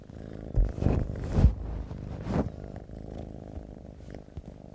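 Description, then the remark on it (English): A kitten purrs in a steady, low rumbling drone, with a few brief rustling bursts near the start and no talking. “That's the cat.”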